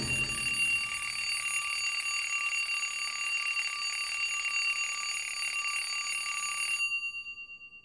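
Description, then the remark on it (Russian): An alarm clock rings loudly and continuously in a steady metallic clatter for about seven seconds, then cuts off with a brief fading tail. No voices are present. “И без 15:09 будильник неожиданно для себя женился на подушке.”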